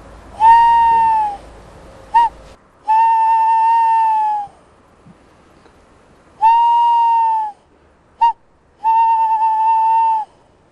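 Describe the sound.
Someone whistles an imitation of a tawny owl's hoot, twice: a long steady note, a quick short blip, then another drawn-out note. Clear and loud, with no talking.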